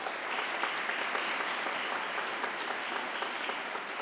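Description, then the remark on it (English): Steady audience applause for the staff at an EMHA and EMPA graduation ceremony for the class of 2022 fills the whole stretch, a dense, even patter of many hands clapping at a constant moderate loudness with no voices standing out. “So please give them a round of applause again.”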